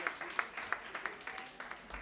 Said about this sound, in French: Pas mal, pas mal, on peut l'applaudir aussi, voilà, formidable.